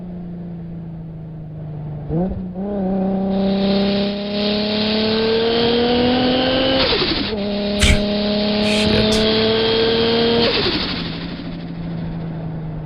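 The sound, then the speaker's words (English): A car engine revs hard and accelerates, its loud droning pitch climbing steadily, dropping at each gear shift, then climbing again. A voice briefly exclaims partway through. “What kind of car are you driving there”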